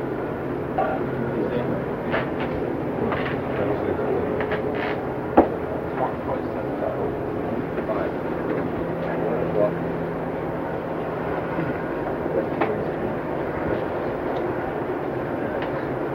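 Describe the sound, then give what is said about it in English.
A helicopter drones overhead throughout, a steady low mechanical rumble holding at moderate loudness, with a single sharp knock partway through. “Boy, we've had the gardeners today, and the sirens, and the helicopters.”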